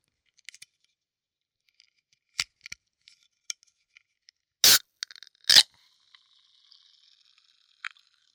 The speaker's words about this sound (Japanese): でもお兄さん、炭酸はラムネだけじゃないですよね。 次はコーラの音、いくよ。